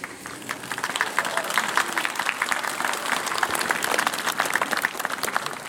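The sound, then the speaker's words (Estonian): Steady applause from people of Muhu, Estonia, many hands clapping in a dense, continuous patter that holds at an even level for several seconds, with no voices standing out. “Aplaus Muhulast.”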